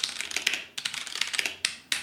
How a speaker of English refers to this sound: Whereas a mechanical has a switch for every individual key, which gives it a lovely clicky sound.